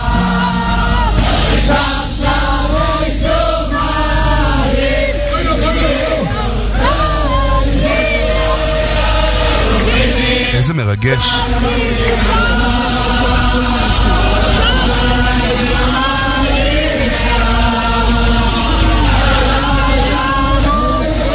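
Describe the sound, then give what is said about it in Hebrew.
A large crowd of Lithuanian, Hasidic and Sephardi followers cheers and shouts loudly and without pause at a nighttime religious celebration at the Schneller compound in Jerusalem, as Rabbi Meilech dances with torches in his hands, a dense wall of voices with a brief break partway through. A single voice speaks briefly. “זה לתושבי ירושלים, אבל אתה רואה את הכמויות של האנשים בלתי נתפס.”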